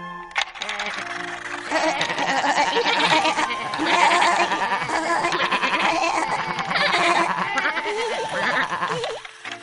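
A chorus of goats bleats over and over, several wavering cries overlapping almost continuously at a fairly loud level, with no pause for the whole stretch.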